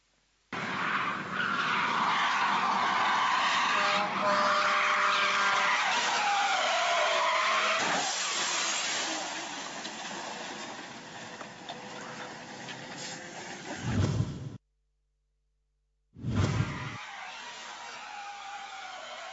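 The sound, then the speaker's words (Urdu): A drifting car's tires skid and squeal loudly and continuously over a roaring engine for about fourteen seconds, then a brief silence before another short burst of screeching, in a drifting accident where the car loses control and crashes. “دیکھیے یہ میں آپ کو جو کار جو ڈرافٹنگ کرتے ہو یا ڈرافٹنگ جو بھی یہ کہلاتی ہے, یہ کیسا حادثہ ہوا, آئیے اس کا منظر دیکھتے ہیں.”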